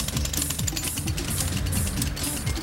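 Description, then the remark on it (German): Busy construction site ambience with excavators and cranes among sand piles: a steady engine rumble with shifting pitch from heavy machinery, overlaid by continuous metallic clattering and ticking, fairly loud and without any voices. “Kalli liebt die große Baustelle mit all den Baggern und Kränen.”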